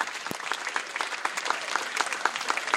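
An audience at the Leipzig Book Fair claps steadily after a slam text, many hands producing a dense, even patter of crisp claps with no voices over it, holding a fairly constant moderate level throughout.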